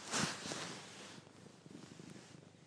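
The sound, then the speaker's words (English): A female cat purrs in a steady, low rumbling rhythm while licking a phone, with a brief burst of rustling noise at the start. No one speaks. “Don't lick my phone. You brainless cat.”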